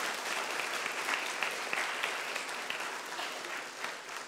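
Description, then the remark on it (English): An audience at Emory Baptist Church applauds steadily for several seconds to welcome new members transferring from Lake Fork Baptist Church in Alba, a dense, even wash of many hands clapping at moderate loudness with no voices over it. “would you be let it known with your applause?”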